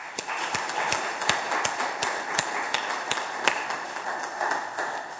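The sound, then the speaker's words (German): A church audience claps steadily to thank volunteers who painted the church tower, sharp individual hand claps standing out over a dense wash of applause that continues without letup for several seconds, with no voices. “Vielen Dank für alles und ich denke, da sollten wir einfach mal klatschen.”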